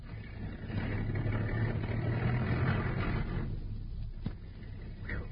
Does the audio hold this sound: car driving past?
yes